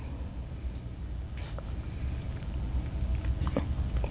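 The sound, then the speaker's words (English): A small sip of Ozark Herbal Creations Ozark Tonic, a spicy herbal tonic, with faint wet mouth clicks and a soft swallow over a low steady background rumble, no talking. “All right, I'm going to take a little swig.”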